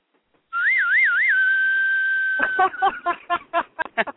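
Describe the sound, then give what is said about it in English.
A loud, shrill whistling of strong wind with gusts up to 50 to 60 miles an hour, wavering up and down at first, then holding one steady pitch before breaking into quick, gusting pulses. No one speaks. “That's Mariah, isn't it? The wind's named Mariah. Is it whistling for someone?”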